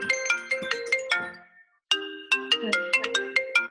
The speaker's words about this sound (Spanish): todo el mundo quiere ahí, está sonando su celular